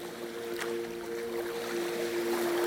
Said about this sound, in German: Fischerboote liegen hier vor Anker und schaukeln auf den sachten Wellen im Hafenbecken hin und her.